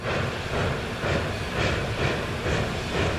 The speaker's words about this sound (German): Berlin in den frühen 1930er Jahren. Wir befinden uns auf Gleis 1 des Anhalter Bahnhofs. Um 12.30 Uhr wird der Zug L20 nach Basel losfahren.